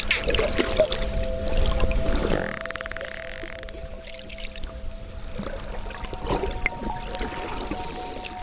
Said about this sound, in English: And there she goes under. Man, what is happening under there? This is what it sounds like underwater.